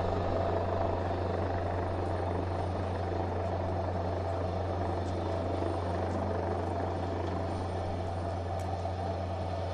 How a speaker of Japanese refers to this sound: 海上保安庁のヘリコプターがヒューガ前方で漂流者を発見して、救出、そして、ヒューガに向けて搬送いたします。 海上保安庁のヘリコプターが負傷者を要集、護衛艦ヒューガに搬送します。